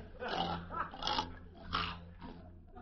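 A pig-like squealing and grunting noise comes in about four rough, harsh, loud bursts, with a low rumbling hum underneath throughout.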